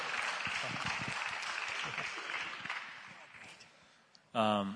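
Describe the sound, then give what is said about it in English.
A crowd applauds the speakers for their testimonies with dense, steady clapping that gradually thins out over several seconds, ending with a brief burst of a voice. “All right, can you guys just give one more quick round of applause for these guys and their testimonies?”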